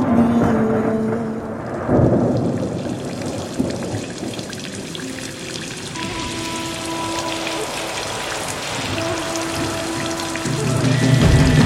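Steady rain patters and hisses across the whole stretch, a dense, even wash of drops, with soft sustained musical tones drifting underneath and no voices.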